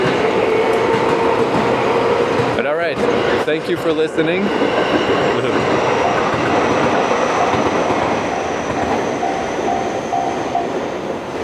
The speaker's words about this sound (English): There you are, train. Ah, what a nice, slow, leisurely train.